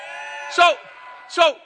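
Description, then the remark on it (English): One voice lets out two loud, raspy screaming bursts about a second apart over a sustained vocal tone, imitating the screaming of a football stadium crowd, the 12th man. “What does the 12th man do? Screams, right?”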